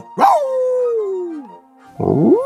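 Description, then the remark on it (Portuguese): Pluto, Mickey's cartoon dog, lets out a long, wavering howl that slides downward, then after a short pause gives a loud, strained bark-like yelp, clear with no talking. “O do cachorro do Mickey, o Pluto.”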